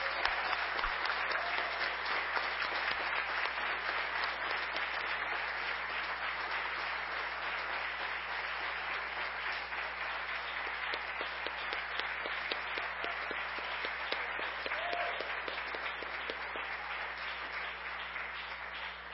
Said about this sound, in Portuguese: E para Ele oferecemos o melhor aplauso nessa noite, em nome de Jesus.